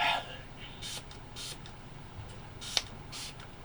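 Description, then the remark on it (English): Several short, airy hissing spritzes from a throat spray pump, spaced about half a second apart with a tiny click on one, quiet against a low background hum. “Grab my first throat spray of the afternoon as well.”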